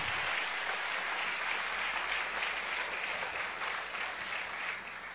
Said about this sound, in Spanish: Dele un buen aplauso al Señor. Glorifique a Dios.